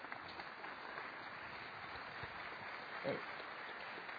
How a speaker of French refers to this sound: Très bien, on vous applaudit.